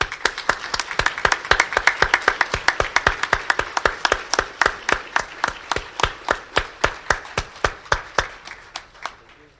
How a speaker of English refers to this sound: We call for applause.